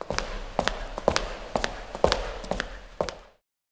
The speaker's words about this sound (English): Walk to the door.